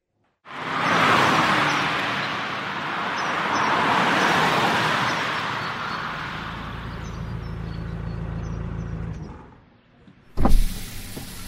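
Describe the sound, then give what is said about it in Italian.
A car engine struggles, with a strained whirring and grinding that drones steadily for about nine seconds without catching, then cuts out, followed by a short sharp clunk. No one speaks. “Signora, sembra avere dei problemi con la sua macchina.”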